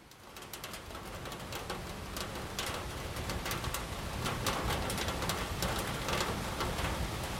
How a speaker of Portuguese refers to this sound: Minha amiga Terra derrama a chuva de verão para encher os riachos que correm pelas montanhas, pelos campos, até os rios, até o mar. Às vezes ela derrama chuva demais, inundando prados e cidades e estradas.